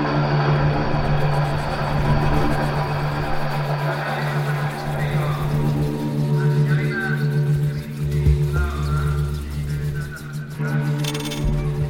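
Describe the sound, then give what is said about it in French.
A steady, droning hum of helicopters circling over the city in the evening persists throughout, a low mechanical throb layered beneath the indistinct murmur of people talking. “Toute la soirée, les discussions vont bon train, accompagnées par le bruit des hélicoptères qui survolent la ville.”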